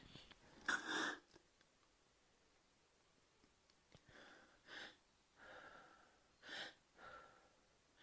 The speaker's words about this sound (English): And I'm in the bathroom. And you can hear what that's done to my breathing. So, if you'll excuse me, I'm going to get some Ventolin.